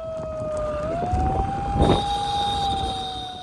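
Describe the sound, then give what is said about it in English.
A handheld siren, gripped in a woman's free hand as she speeds down a narrow lane on a motorbike toward a storm in May in Shyamnagar, wails with a steady, piercing tone that climbs slightly in pitch, loud over a constant rush of wind, rain and engine noise. “She was gripping a siren in her free hand.”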